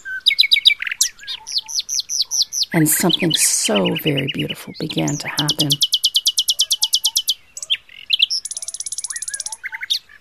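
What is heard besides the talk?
birds chirping and singing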